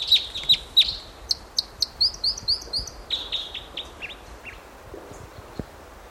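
A wild bird calls in a rapid series of sharp, high chirps, about a dozen quick notes that start loud and fade off toward the end, with no talking.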